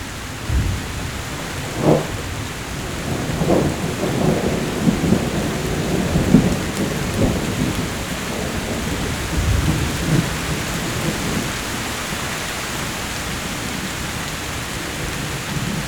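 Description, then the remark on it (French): Steady rain hisses over low, rolling rumbles of thunder at the end of a storm, swelling around the first half and gradually easing off as the wind drops and the rain lessens, leaving mostly constant rainfall with no voices. “La fin de l'orage.”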